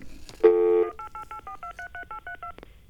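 A steady dial tone cuts off and a quick run of about eleven touch-tone telephone beeps follows as a 1-888 toll-free number is dialed, evenly spaced and clear, with no one talking.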